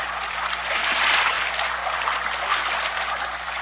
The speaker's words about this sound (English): Listen to the Moro boatmen as they paddle their heavily loaded Vinca against the swift rapids of the narrow river. It's tough going, because here, the river boils out of the narrow gorge that cuts through the mountain range